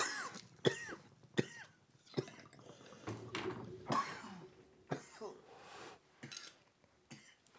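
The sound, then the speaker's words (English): A run of harsh coughs and throat clearing after smoking Strawberry Cough cannabis on 420 in Las Vegas, several bursts in quick succession over about eight seconds, with some faint background clatter and breathy sounds between them. “Strawberry cough working his magic”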